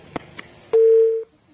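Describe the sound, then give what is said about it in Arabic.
Two faint clicks on a phone line during a caller's call into a broadcast program, then a single steady electronic tone sounds loudly for about half a second before cutting off as the call drops. “انقطع الاتصال.”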